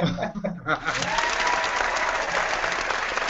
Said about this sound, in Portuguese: Ó, a torcida aplaudiu, cara.